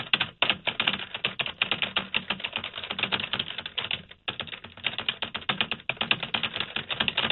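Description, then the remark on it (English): Rapid, continuous typing on a computer keyboard, fairly loud, with dense clicking keystrokes and a brief pause midway before the clatter resumes, as someone finishes up a dream journal. “What are you typing?”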